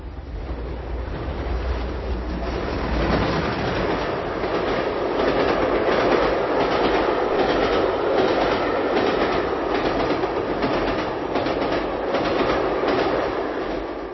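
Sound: train passing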